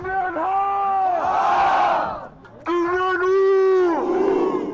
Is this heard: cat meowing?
no